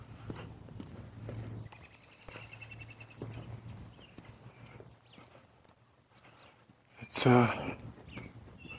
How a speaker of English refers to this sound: Robins. A couple of male robins. Get off my turf. Leave my lady alone, I guess. He'll be back.